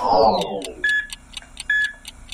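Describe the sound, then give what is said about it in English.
A heart monitor beeps at a steady, normal pace: two short, clear electronic tones about a second apart, following a brief fading sound at the start, with no talking. “That beeping sound is the normal beating of a heart.”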